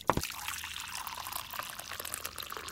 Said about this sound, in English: Well, I thought you might say yes, so let me pour some hot water for you.